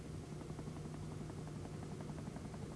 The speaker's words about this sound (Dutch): Een helikopter. Hij komt recht op ons af.